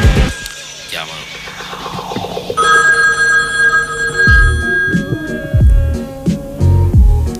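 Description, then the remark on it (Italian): A telephone rings with a bright, sustained trill for a couple of seconds midway, clear, amid murmuring voices and followed by heavy low thumps. “Pronto? I signori patrioti sono pregati di spegnere i cellulari.”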